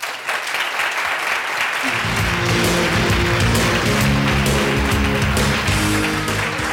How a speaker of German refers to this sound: Applaus für Christian Hüms.